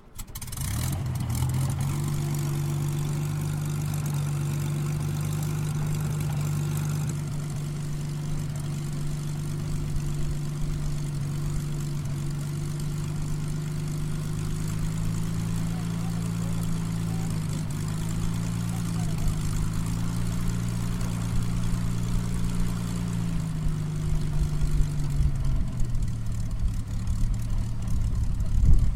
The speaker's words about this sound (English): On its arrival, the Hurricane stopped and powered up its engine again so the wartime pilot could see, hear and smell what he called his office throughout World War II.